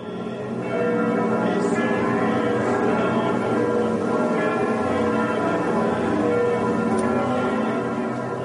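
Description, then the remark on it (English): Church bells in France ring continuously and loudly, their overlapping tones blending into a dense, sustained peal that carries on without pause and with no voices. “From village churches to Saint-Sulpice in Paris, the sound of bells was everywhere.”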